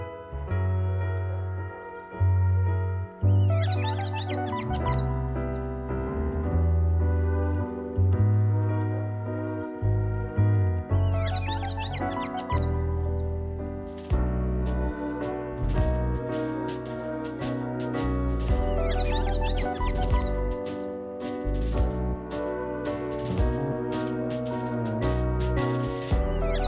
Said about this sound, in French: Tu t'amuses donc à faire chanter des oiseaux que tu enregistres en Martinique sur tes compositions de piano, de rythme, de batterie.